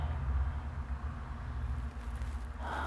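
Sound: street traffic noise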